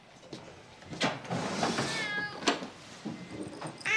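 A cat in a hospital ward for coma patients lets out a drawn-out, wavering meow, fairly soft, with a few brief rustling knocks and a faint background hiss around it. No one speaks.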